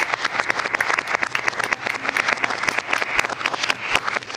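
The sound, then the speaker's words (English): Applause from a group: dense, rapid overlapping claps forming a steady crackling wash that holds at a fairly loud, even level throughout. “Yeah, come on, and applause, no longer depressed.”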